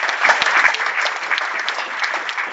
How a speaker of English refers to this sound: start off by saying thank you to the committee members. Can we please give them a round of applause?